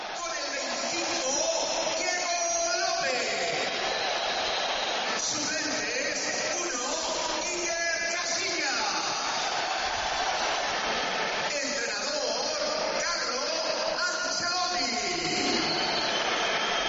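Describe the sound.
The crowd at Real Madrid's Bernabéu stadium, not full, on a day of horrible weather, roars steadily, with shrill whistles at Diego López and Ancelotti and applause for Casillas rising and falling over a dense wash of clapping and voices, loud and unbroken for the whole stretch.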